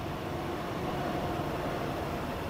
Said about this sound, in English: And, there's also a bunch of train tracks here. The train's just passing now.